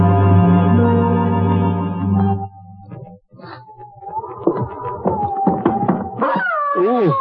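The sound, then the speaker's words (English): A dog whimpers and howls in a run of wavering, gliding high whines that rise and fall, fairly loud, following a low sustained droning tone at the start. “That dog.”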